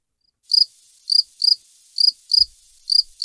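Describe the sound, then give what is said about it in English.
Crickets chirping in a steady rhythm of short, shrill trills, about six bursts over a few seconds, clear against an otherwise silent background with no voices. “I just know that up there in the guy's noggin, it's crickets.”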